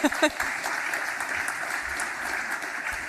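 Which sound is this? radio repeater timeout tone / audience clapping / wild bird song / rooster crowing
audience clapping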